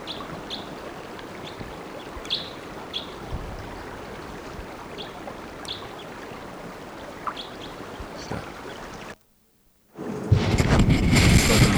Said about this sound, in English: Still around, just sitting in the top of a dead lodgepole pine, giving type 2 flight calls. Here it is.